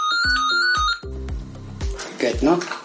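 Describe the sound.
A telephone rings with a bright, melodic electronic ringtone, a few quick repeating tones, close and clear, before a voice briefly speaks at the end.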